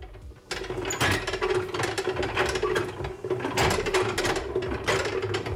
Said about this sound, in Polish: To niech pani zobaczy oryginalny kołowrotek wędkarski, stary, prosty, ale z jakąś grzechotką, bo słychać jak grzechocze. Malusieńkie, ale funkcjonalne, do kija, do wędki tak było przyczepione i wędkarz się męczył, jak złowił rybę.